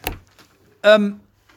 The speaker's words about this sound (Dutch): De deur mag inderdaad even dicht.